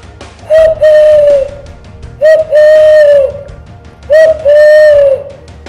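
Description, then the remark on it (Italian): An angry owl gives three agitated, guttural whistling calls, each a short higher note sliding into a longer, lower drawn-out tone, evenly spaced and loud, carrying up through a village, with no other sounds around. “Un verso prima acuto, poi basso. Un fischio melenso e gutturale di uno strigiforme infuriato.”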